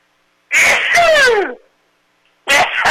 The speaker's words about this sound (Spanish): No, es que el estornudo debe de escucharse, no debe de ser anónimo. Que se escuche el estornudo. Bueno, y se escuchó muy bien.